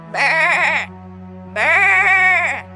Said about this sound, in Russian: Послышит, в стороне ревет барашек.